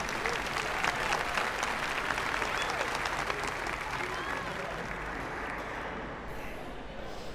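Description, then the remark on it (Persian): Sustained applause from a large audience at a school gathering, a dense steady clatter of many hands clapping that holds at an even level for several seconds before easing slightly, with a faint murmur of voices underneath. “لطفاً بلند شید. همگی تشویق کنید.”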